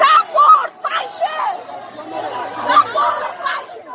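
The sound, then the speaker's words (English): Hundreds of Afghan women protesting against the Taliban in a street in Kabul, many people talking and calling out at once in a loud, continuous babble with no single voice standing out. “Just this past Tuesday in Kabul, hundreds of Afghan women led one of the largest protests against the Taliban, and Tolo was there to cover it.”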